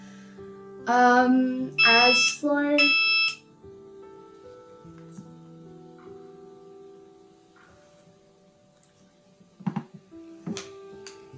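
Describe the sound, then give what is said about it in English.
Three loud electronic alert beeps in quick succession, each a short melodic tone from an insulin pump signalling slightly high glucose readings after breakfast, followed by quiet room noise and a couple of faint knocks. “are these the beep from your pump?”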